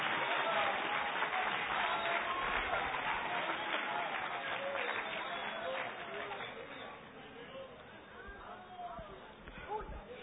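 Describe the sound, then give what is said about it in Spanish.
An audience breaks into loud, dense applause for Christ, sustained clapping that thins and fades after about six seconds while scattered voices and shouts rise over the dwindling claps. “Le pongo un aplauso a Cristo en la noche.”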